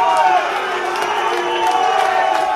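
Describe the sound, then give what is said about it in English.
A large angry crowd of Boeing machinists roars and boos their union leadership off the stage after a contract vote, many voices blending into a loud, dense wall of jeering without pause. “After the vote, they were so angry they booed their union leadership off the stage.”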